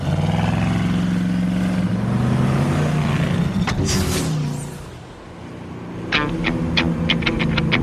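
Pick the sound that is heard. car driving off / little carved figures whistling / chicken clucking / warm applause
car driving off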